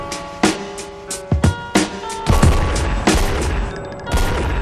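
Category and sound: sound effect, three gunshots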